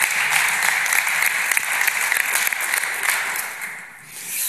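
A crowd applauds steadily for the person who designed the presentation slides, a dense wash of clapping hands that holds loud and even for several seconds before easing slightly near the end.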